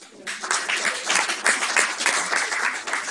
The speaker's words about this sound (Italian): Comunque facciamo l'applauso a tutti.